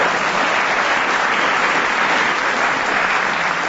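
Steady, loud applause from an audience fills the whole stretch, a dense wash of many hands clapping at once with no break and no voices coming through.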